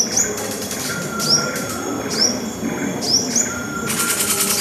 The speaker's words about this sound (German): Im Romantikmuseum zwitschert und raschelt es in allen Ecken. Unter kleinen Pavillons aus Stoff, die ein bisschen wie Laubhütten wirken, kann man sich per Kopfhörer ganz tief in die Wälder entführen lassen.